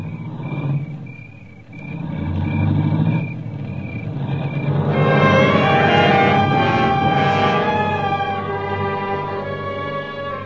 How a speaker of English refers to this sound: I heard the car leave, and I knew what it meant.